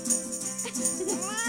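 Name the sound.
cat meowing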